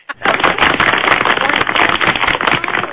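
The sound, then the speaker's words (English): A recorded applause sound effect: a crowd breaks into loud, dense applause that starts abruptly and holds steady for a few seconds, many hands clapping at once into a continuous crackling roar with no voices. “That was an applause.”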